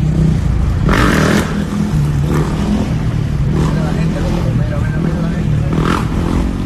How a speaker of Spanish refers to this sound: E a Garda Civil tamén imputa como investigados por un delito de condución temeraria a seis rapaces con idades comprendidas entre 21 e 30 anos por facer manobras temerarias con motocicletas en vías públicas da provincia de Lugo.